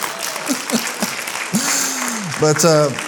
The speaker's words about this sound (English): Isn't she a sweetheart? Give her a hand clap. We just love her.